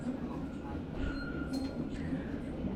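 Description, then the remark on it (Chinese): A steady, loud rumble of a subway train rolling along the tracks, with a faint metallic whine and occasional light clinks riding over the continuous low roar. “我还有三个站，你呢？哦，你还有两个站，但是要倒下线是吗？”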